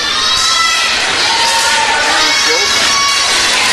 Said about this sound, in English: And the Fort Recovery fans across the way giving a big round of applause there.